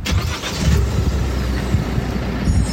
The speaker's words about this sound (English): Should we check the brakes, actually, just before you go?